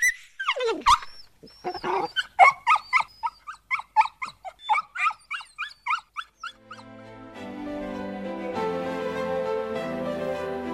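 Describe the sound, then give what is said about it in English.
A dog yelps and whimpers while thrashing desperately, in a rapid, frantic series of sharp, high, loud cries for several seconds before music swells in and takes over. “The dog started yelping and thrashing desperately.”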